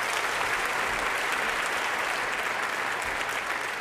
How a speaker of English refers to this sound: So I played the concert, and surprisingly, in spite of that, it came off great. I finished and just saw a sight pretty similar to this with just people cheering. Standing up and cheering, yeah.